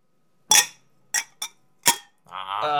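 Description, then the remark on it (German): Freshly poured wine glasses clink together in a toast four times in quick, uneven succession, bright, followed by a sustained, shimmering ringing tone as the glass resonates. “Und dann versuchen wir das mal klingen zu lassen, damit Mama Christa auch was hört.”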